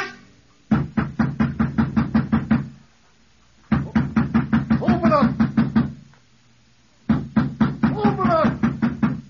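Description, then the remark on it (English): Three bursts of rapid, heavy pounding on the door of a man's house, each a quick string of about ten loud thuds separated by short pauses, with a voice calling out during the later bursts. “Why don't you open the door when somebody knocks?”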